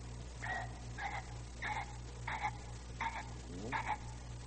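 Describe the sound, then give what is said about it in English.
A voice imitates a ringneck pheasant's call: six short, raspy, croaking bursts repeated at an even, quick rhythm, fairly soft, over a steady low hum with no talking. “How does a ringneck pheasant sound?”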